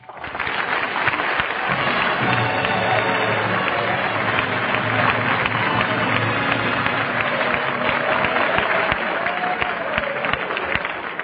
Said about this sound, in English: But why should I get all that applause? Well, the Ohio football team is in the audience. They know a good formation when they see one.